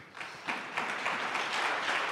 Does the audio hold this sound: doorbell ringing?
no